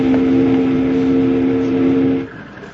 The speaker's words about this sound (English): Pull that whistle cord again, Jingles. We gotta find some wood along here someplace.